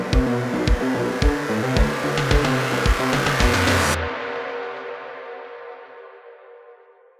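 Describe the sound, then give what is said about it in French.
A car engine turns over and revs with a loud, rough, pulsing rumble, then cuts off abruptly and its low hum trails away over a few seconds. No one speaks. “Vous installez tous dans la voiture et Pete démarre.”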